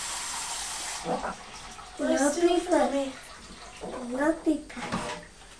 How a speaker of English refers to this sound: No big splash. No, it's not a big splash. This is just a wash, isn't it?